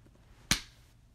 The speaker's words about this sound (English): See how big the clap is on the audio capture?